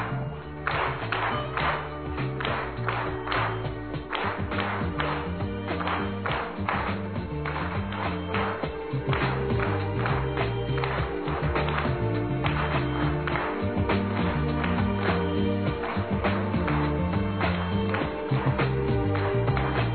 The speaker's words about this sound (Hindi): हाँ, इससे पूर्व मैं बहनों से अनुरोध करना चाहती हूँ कि आदरणीय दीदी जी का, स्पीकर महोदया जी का फूलों के द्वारा, बैच के द्वारा स्वागत करें, और वही फिर से वो ताल से ताल मिलाते हुए ताली हम बजाए।